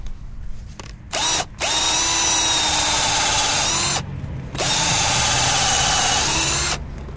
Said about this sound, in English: So I'll go ahead and get the drill out and give this guy a shot right here.